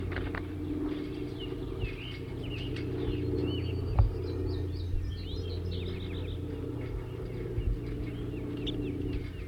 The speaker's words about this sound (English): 37 and 40 are now in the same small cage on the stump here. in the net setup, and they've been giving chitter notes, and I'm going to try to record that and identify the birds giving the chitter notes.